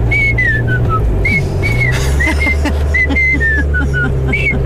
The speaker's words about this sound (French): Mais là, c'est parce que ça dure 30 secondes. Ben oui. Il est dans son camion puis il sifflote de même. Ouais, c'est ça. Exact.